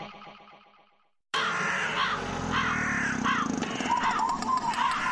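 A fading tone ends abruptly, then a loud, dense chorus of crows bursts in, their harsh caws repeating and overlapping continuously, in a radio advertisement for the premiere of the play Godine vrana at the National Theatre in Belgrade.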